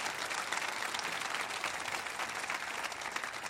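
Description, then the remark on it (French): A church audience applauds God together during a service, a dense, steady wash of many hands clapping at once that holds evenly throughout, with no voices rising above it. “Est-ce qu'on peut applaudir notre Dieu qui prend soin de nous?”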